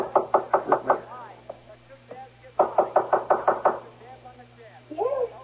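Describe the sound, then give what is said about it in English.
Two bursts of rapid knocking on a mother's wooden bedroom door, about five or six sharp raps each, fairly loud, with a short pause between and faint voices murmuring afterward. “This is Mother's door here.”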